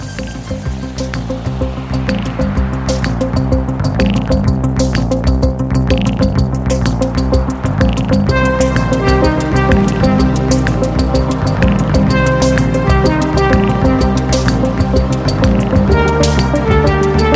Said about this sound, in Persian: آهنگساز 71 ساله و فرانسوی، این آهنگایی که میشنوید توی یکی از مصاحبه‌هاش گفته بود که من بیشتر عمرم رو با ماشین‌ها گذروندم تا آدم‌ها، و منظورش از ماشین همین سینتیسایزرها و کامپیوترها و وسایل الکترونیکیه که باهاش این صداها رو تولید می‌کنه.